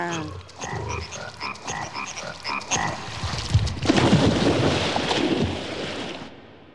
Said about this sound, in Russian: На них лягушачье кваканье произвело совсем удручающее впечатление.